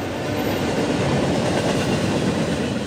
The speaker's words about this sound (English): Until then, the most frequently heard locomotive sights and sounds in this part of California will be from the many slow-moving freight trains traveling through the valley.